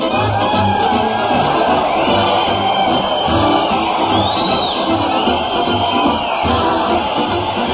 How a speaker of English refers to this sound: Listen to that crowd cheer Fred Allen as he heads his weekly parade to the Old Town Hall.